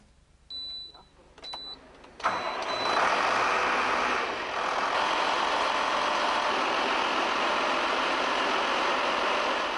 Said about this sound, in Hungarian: Így indul és ilyen hangja van egy biodízel traktornak. Magyarországon ez az első biodízel energiával működő erőgép.